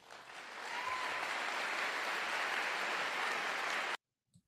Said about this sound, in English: Okay, well, and they're clapping. There's an ovation for … when he says that they have female pastors in the church.